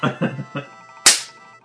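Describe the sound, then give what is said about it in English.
A single sharp hand clap, loud, meant to pass for a slap. It lands crisply right after a few short spoken syllables and rings out briefly. “That was obviously not me just clapping.”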